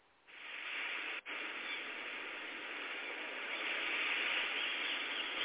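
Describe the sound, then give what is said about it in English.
Ocean wave sounds added to a virtual reality island beach scene: a steady, hissing wash that briefly cuts out near the start, then swells slightly louder toward the end; no gull calls stand out and no one speaks. “Let's get the sound of some waves and seagulls.”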